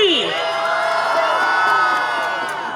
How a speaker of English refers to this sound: Look at this crowd of 1.8 million people.